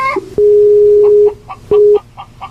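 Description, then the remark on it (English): A telephone dial tone after a call is hung up sounds as a steady, low-pitched electronic hum: one long stretch, a pause, then a shorter burst, with faint chirping noises in the gaps. “Oops, I hung up the wrong one.”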